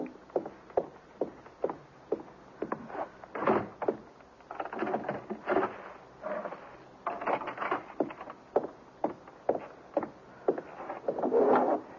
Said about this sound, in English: Mother, will you please just go and close the door and put the chain on, too?